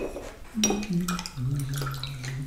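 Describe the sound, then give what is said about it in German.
A paintbrush dips and swishes in a water cup during an art session at a care home in Stuttgart, Germany, with soft splashes and light clinks against the container over a steady low hum. “Jetzt tunken wir mal den Pinsel in das Wasser.”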